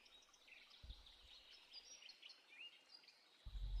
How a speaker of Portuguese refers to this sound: Sentindo a umidade do ar, o canto dos pássaros, a água caindo.